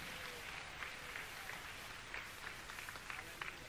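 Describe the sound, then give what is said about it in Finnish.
An audience at a sermon applauds for Jesus, a dense wash of many hands clapping at a moderate level with scattered sharper claps standing out, continuing throughout without a break. “Aplodi tälle Jeesukselle.”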